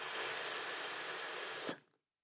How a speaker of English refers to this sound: Breathe deeply from your abdomen. Feel the energy from taking in more air. Blow the air out with a shh. Repeat three times. So breathe in, then breathe out the air with a shh.